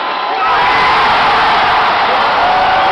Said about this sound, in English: Save our Sonics. That chant blew the roof off that place. Save our Sonics! Save our Sonics! It was so loud in there. Reminded me of like playoff games.